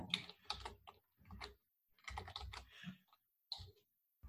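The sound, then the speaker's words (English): Steady typing on a computer keyboard: bursts of quick, crisp key clicks in an irregular rhythm, with brief pauses between clusters and no voices. “You can see my screen, right, as I'm typing?”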